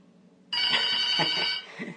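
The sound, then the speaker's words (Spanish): A telephone bell on the phone line of a radio booth rings loudly, a bright metallic trill that starts abruptly and sustains for about a second before cutting off, with no voices present. “Ya decía yo que ahora no sirve ni siquiera el timbre del teléfono, pero sí.”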